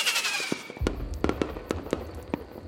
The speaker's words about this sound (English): Finally, fireworks are set off above the lake.